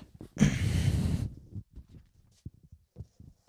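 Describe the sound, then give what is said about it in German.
A single loud, hissing sneeze bursts out and lasts under a second, followed by faint shuffling and soft low murmurs. “Oh, du musst doch schon wieder niesen.”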